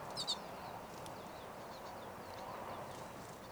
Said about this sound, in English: Most, if not all, of the recorded calls are 5:35, but there is a wild bird very close.